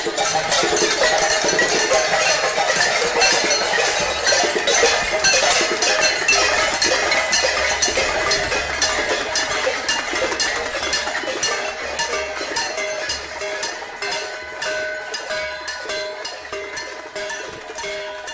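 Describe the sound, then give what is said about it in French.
Many people on their balconies bang on pots and pans at once, a dense, continuous clatter of bright metallic clangs and rings that stays loud throughout, easing slightly toward the end, with no voices. “Vous sortez sur votre balcon et vous tapez de la casserole, si ça vous tente.”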